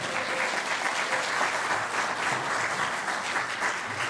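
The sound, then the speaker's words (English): Steady audience applause, a dense wash of many hands clapping at an even, sustained loudness for several seconds with no voices standing out, celebrating a young woman who graduated high school last year. “You can clap. That would be great.”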